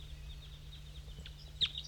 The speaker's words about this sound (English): Oh, the wild bird is singing. There's a wild bird still up in the dead pine singing.